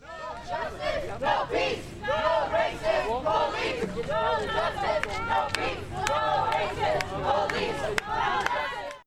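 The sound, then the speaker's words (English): A large crowd on a protest march, moving west down Kirkwood Avenue and then north on College, shouts and chants together continuously, many chants about police, with overlapping calls rising and falling and occasional sharp claps or bangs cutting through the steady, loud roar. “Many of the chants were about police.”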